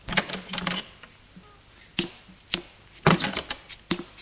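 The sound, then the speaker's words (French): Knocking on a bedroom door: a man in a blue suit knocks on the door of his wife's room, with sharp, hard raps in uneven bursts, a quick cluster at first, then single and grouped knocks spaced apart, fairly loud against a quiet background with no talking. “Habillé d'un costume bleu, il frappe à la porte.”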